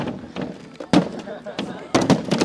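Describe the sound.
Sledgehammers strike a wall in a few sharp, heavy, loud impacts at irregular intervals as several dozen people take turns knocking the wall down at New College in Sarasota, Florida, with a crowd murmuring and talking in the background.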